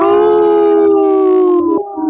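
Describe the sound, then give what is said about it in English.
A person imitates a wolf howl, a single loud, sustained tonal wail holding steady for about two seconds before sliding down and breaking off, with no talking. “I've been listening better to the Howling for Wolves commercial, so I've been practicing my howl.”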